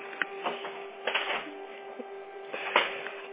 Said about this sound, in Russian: Пока электронный только отправишь, мы ставим на себя внутреннюю заявку, но я сотрудники вам подождите, сейчас идет принтер, я ничего не слышу.